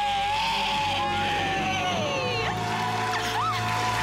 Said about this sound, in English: Let's hear a great debt-free scream.